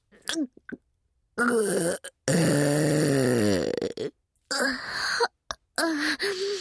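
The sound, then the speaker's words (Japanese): A long, loud, drawn-out burp during a burping contest rumbles for a few seconds with a wavering, falling pitch, surrounded by short breathy vocal noises before and after. “生ゲップやっば。”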